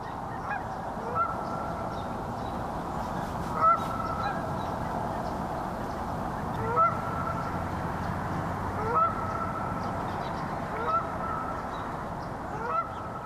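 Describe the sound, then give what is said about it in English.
A Canada goose at Lake Fayetteville honks repeatedly at irregular intervals, loud, over a steady low roar of rush-hour traffic that fills the background throughout. “Listen to this Canada goose at Lake Fayetteville with rush hour traffic all around.”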